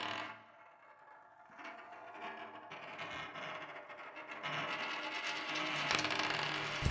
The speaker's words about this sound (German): Gespannt lauschen sie, als das Musikstück mit den rollenden Münzen beginnt.